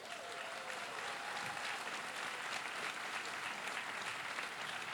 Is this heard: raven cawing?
no